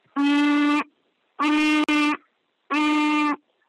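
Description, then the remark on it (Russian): A child, asked to show again how they can hum, hums with a closed mouth three times, each a steady, fairly loud, mid-pitched tone lasting over half a second, separated by short silences. There is no talking. “Еще раз покажи, как ты умеешь мычать.”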